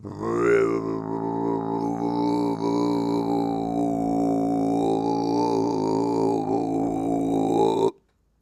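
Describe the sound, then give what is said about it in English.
Deep, guttural Tibetan throat singing by monks: a single low droning chant with a faint whistling overtone above it, held steadily for about eight seconds before cutting off abruptly. “So to go to sleep, I listen to Tibetan monks' throat singing.”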